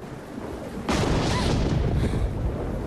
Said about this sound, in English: Later that night, Sherry's woken up by the thunder and lightning.